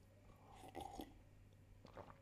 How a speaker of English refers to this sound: Just gonna have a sip of my turmeric tea.